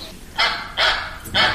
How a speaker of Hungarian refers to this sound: Kacsa. Nagyon jó.